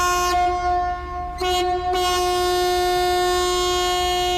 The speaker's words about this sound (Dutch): Nee, we gaan zo vertrekken hoor. En dan krijgen we zo'n toeter van de kapitein te horen. Nou, dat is helemaal een holawaai. Dus moet ik maar even mijn oren dicht doen, want dat moet wel niet.